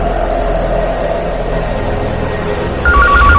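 A telephone starts ringing at the very end, a short burst of warbling, alternating electronic tones cutting in over a steady, dense wash of low background sound.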